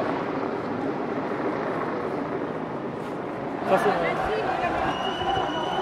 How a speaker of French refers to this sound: On entend très bien l'hélicoptère qui veut filmer ce qui se passe.